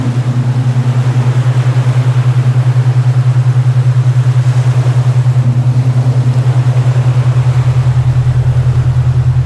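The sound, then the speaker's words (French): A cargo ship's engine drones steadily at sea, a loud, continuous low hum with a faint pulsing throb, wrapped in a broad wash of wind and water noise, with no voices. “On doit prendre le rythme du bateau cargo.”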